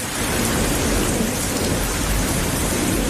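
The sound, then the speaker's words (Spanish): Heavy rain pours steadily and loudly throughout, with deep rolling thunder rumbling underneath. It's a dense, unbroken thunderstorm wash with no voices. “Igual se les había olvidado, pero así es como suena una tormenta.”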